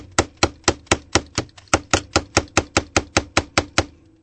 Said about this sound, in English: It's a freaking bird banging into the window.